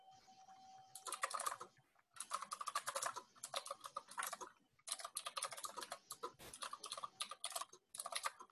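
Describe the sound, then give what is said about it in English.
Steady bursts of typing on a computer keyboard while writing up an issue, rapid clicky keystrokes in several runs with brief pauses between them, fairly quiet, with a faint steady hum underneath and no talking. “So while I'm typing this up”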